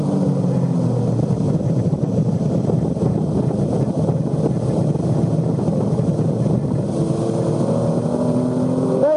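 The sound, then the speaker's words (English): A car engine roars loudly and continuously, its pitch climbing and dropping as it shifts up through third into fourth gear, flat out in fourth at very high speed through a fast corner, with heavy wind and road noise underneath. “Third gear, fourth gear now. Flat in fourth gear, very fast.”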